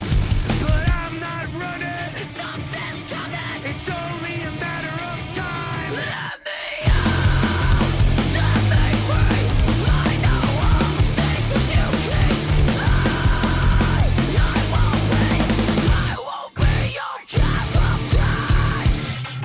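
A loud, dense heavy hard rock track by a band in a nu metal style, with thick distorted guitars, driving drums and screamed vocals, briefly cutting out twice before crashing back in.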